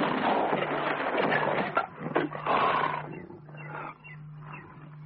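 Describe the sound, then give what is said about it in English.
A lion lets out a loud, snarling roar as it leaps, rumbling on for several seconds, breaking into a few rough bursts before trailing off into lower growls. “He raised his rifle, and at that moment, the lion jumped.”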